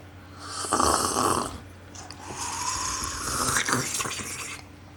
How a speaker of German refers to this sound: Jetzt wollen wir schlürfen, damit man es hört. Moment.